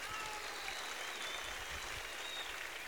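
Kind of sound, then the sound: crowd, audience applause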